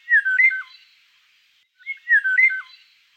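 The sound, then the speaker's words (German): Two short phrases of melodic bird song, strong and clear, each a rich run of whistled notes with sliding pitch, separated by about a second of silence. No voices. “Ja, das ist ein schöner, melodischer, kräftiger Gesang.”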